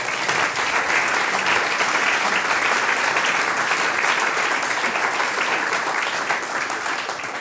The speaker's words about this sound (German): Applaus einmal für die Gesangsversteigerung.